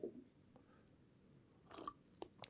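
A quiet sip from a drink, with soft wet mouth clicks and a swallow clustered near the end, heard alone without any talking.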